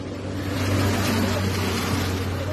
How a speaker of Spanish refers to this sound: Mira para acá la caravana. Moviendo todos los carros militares. No sé para qué se están preparando.